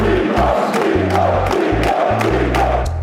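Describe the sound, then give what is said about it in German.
A large crowd of spectators at an esports video game tournament shouts and roars continuously, with rhythmic bursts of chanting over a steady, loud background of cheering voices and deep pulsing bass. “Vom nicht wirklich abgetrennten Pressebereich hat man einen guten Blick auf die Zuschauer. Am liebsten wäre ich jetzt auch bei ihnen und würde einfach mitschreien.”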